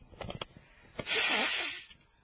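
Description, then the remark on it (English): Rustling of a tissue, then a single long, honking nose blow lasting nearly a second, loud and breathy, trailing off into a faint sniffle. “Maybe I blow my nose.”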